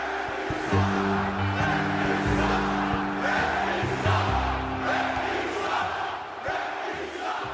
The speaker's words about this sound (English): Does the sound of those 18,000 people screaming at you or booing you, does it sound any different than it sounded when you started? Yeah, there's a little more anger involved.